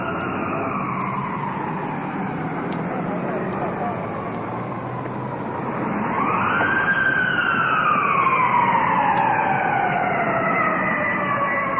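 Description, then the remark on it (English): An ambulance siren wails continuously, its pitch sweeping up and down as it draws closer and grows louder over a steady low road rumble. “Ambulance rolling in.”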